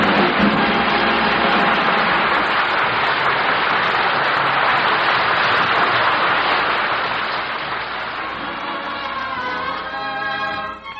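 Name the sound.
audience applause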